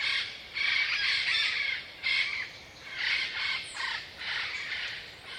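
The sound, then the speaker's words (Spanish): Harsh, raspy parrot squawks come one after another in a steady series of overlapping bursts, slightly distant and at moderate loudness, under a now clear blue sky, with no one talking. “El sonido distante de los loros llena el lugar, y los colores vibrantes de las aves contrastan con el azul del cielo ahora despejado, creando una paleta visual increíble.”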